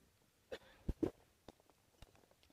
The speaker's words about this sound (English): I'm going to take a sip of water while you find your passage.